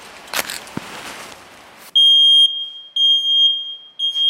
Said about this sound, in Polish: postanowiliśmy wypróbować, jak zadziała czujka wykrywająca dym zapalonego w jej pobliżu papierosa. Są zapałki, jest papieros. Ognia!